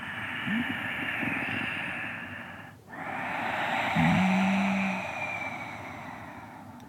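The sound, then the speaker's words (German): Ujjayi breathing, made by narrowing the glottis and sounding like Darth Vader breathing through his mask in Star Wars: a long, steady, raspy inhale, a brief pause, then an equally long hissing exhale with a faint hum. The breaths are loud, with no talking. “Und die Ujjayi-Atmung, die klingt eben ganz ähnlich. wie Darth Vader, so als würde Darth Vader durch seine dunkle, seinen dunklen Helm atmen.”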